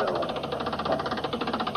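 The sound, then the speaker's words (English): A car engine runs with a steady, rapid chugging rhythm as the car is pulled up, a low rumbling drone pulsing evenly at a moderate level throughout, with no voices. “We got the car, Chief. We're pulling it up.”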